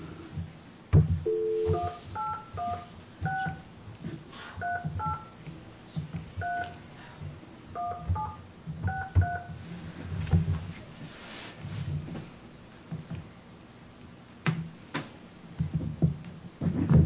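A phone keypad beeps out a telephone number with an extra 1 dialed in front, a quick run of short dual-tone presses with brief pauses between groups, mixed with handling clatter and low background rumble.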